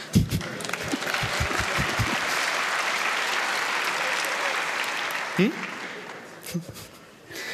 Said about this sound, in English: Okay, you can clap if you want.